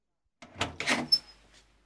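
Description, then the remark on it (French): A door opens in under two seconds as a father pokes his head through it: a soft clunk of the latch, a brushing swing and a brief high squeak of the hinge, then quiet. “Son père passe sa tête par la porte.”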